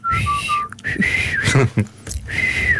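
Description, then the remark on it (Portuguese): Breathy failed attempts at whistling by someone who cannot whistle: a few faint, wavering tones break through amid the hiss of blown air, stopping and starting over a few seconds. “Não sei. Sai sempre vento.”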